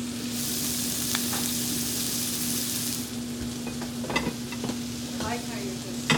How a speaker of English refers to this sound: All right, so now we'll add our shallots, thyme, marjoram, and we'll let that other side cook, kind of steaming all of the herbs and everything on top, and then we'll whip it around to roll it in, about another minute and a half on this side.